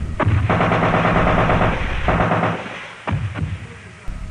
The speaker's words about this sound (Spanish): Hay fuego. Y también pareciera que el fuego está contestado. Estamos descendiendo ahora, estamos más abajo. Está siendo contestado por por M60.